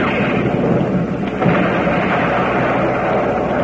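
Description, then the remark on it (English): A loud cannon firing, a heavy booming roar that stays dense and rumbling for several seconds with a slight surge midway, representing puffed wheat and puffed rice cereal being shot from guns, with no voices. “Those luscious, wholesome cereals, Quaker Puffed Wheat Sparkies and Quaker Puffed Rice Sparkies, shot from guns.”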